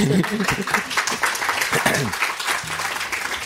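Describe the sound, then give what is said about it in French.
An audience applauds steadily, a dense wash of many hands clapping at once that holds for the whole moment, with a few indistinct voices murmuring underneath. “Vous pouvez applaudir, oui.”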